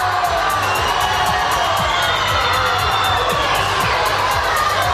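An angry crowd shouts "murderers" in a dense, continuous clamor of overlapping voices. The loud, steady roar of yelling and jeering never lets up across the whole stretch.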